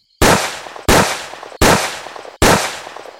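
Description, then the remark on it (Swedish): Four loud pistol gunshots from a masked gunman shooting at a man in Málaga fire one after another at a steady pace, each a sharp crack followed by a ringing, reverberant tail that fades just before the next shot. “Han skjuter skott efter skott.”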